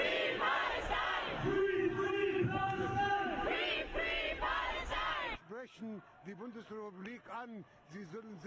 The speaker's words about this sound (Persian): در آلمان مردم در نخستین راهپیمایی سال جدید میلادی حمایت از فلسطین را فریاد زدند.